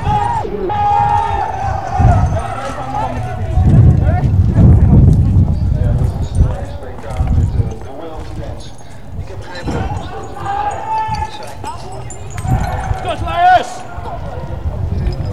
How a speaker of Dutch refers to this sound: Ja, er wordt weer een charge uitgevoerd nu. Dat is een knipoogje. We gaan verder met politie te paard, ren door de menigte heen.